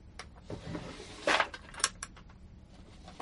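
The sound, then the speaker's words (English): A drawer holding family photos is pulled open with a short wooden scrape and clunk, followed by a second lighter knock, with no talking. “I've got some photos of my family in that drawer over there.”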